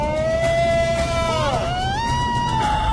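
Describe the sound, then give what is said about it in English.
A person on a Bigfoot-hunting team in the Animal Planet show Finding Bigfoot lets out a loud, drawn-out howl imitating a Bigfoot call, holding a steady pitch, wavering and dipping midway, then rising higher and sustaining over a noisy background. “My role on the team is to do the loudest, furthest carrying Bigfoot calls.”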